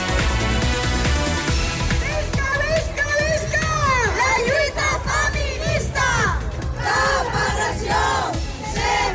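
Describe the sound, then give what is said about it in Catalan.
Thousands of people, mostly women, shout and chant together outdoors in the streets at 8M women's day demonstrations, many voices rising in loud, sustained cries with rhythmic bursts, dense and continuous throughout. “Milers de persones, la immensa majoria dones, van tornar a sortir al crit que ara sentíem ahir al carrer a tot el país per reivindicar el 8M.”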